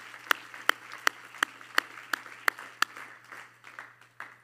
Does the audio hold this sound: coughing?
no